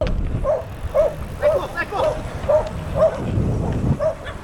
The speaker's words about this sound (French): Juste avant d'arriver, nous traversons une zone industrielle. Deux chiens nous prennent en chasse. J'active la GoPro, espérant capturer enfin une belle course-poursuite. Puis, quatre autres déboulent derrière nous.